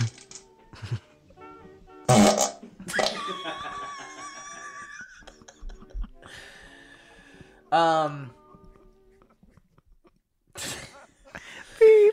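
A string of farts into a toilet bowl, from a recording found on YouTube, some short and sputtering, others long, buzzy and wavering in pitch, coming in loud separate bursts with quiet gaps between them.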